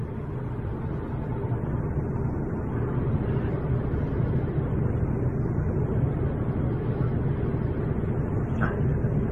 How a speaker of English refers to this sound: And a traffic jam in the mountains. Pretty funny.